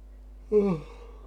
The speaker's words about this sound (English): Sorry for the yawning. It's really hard to stay awake in this book.